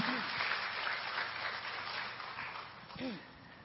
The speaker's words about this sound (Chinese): 好，让我们用热烈的掌声来欢迎我们的属灵母亲啊！